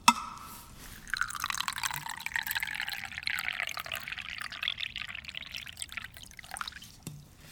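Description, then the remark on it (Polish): Tea poured from a thermos, filled that morning, in a chilly church, in one steady stream for about six seconds, a soft hissing splash whose tone shifts as the cup fills, with a small click at the start and end. “Ma pan jeszcze trochę tej herbaty? Pełny termos zrobiłem rano.”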